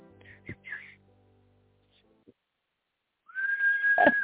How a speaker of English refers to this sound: do the whistle.